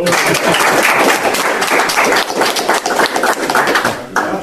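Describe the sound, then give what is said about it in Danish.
An audience breaks into steady applause after a talk on the 1864 war at the Slægts- og Lokalhistorisk Forening in Frederikshavn on 2 October 2014, a dense wash of many hands clapping at a fairly loud, even level for several seconds, with no talking over it. “Skal vi ikke give ham en klapsalve?”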